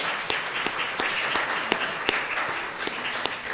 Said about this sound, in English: Birthday wishes for Mr. Jim Karcher, who is turning 80. So congratulations. Let's all give Jim a round of applause.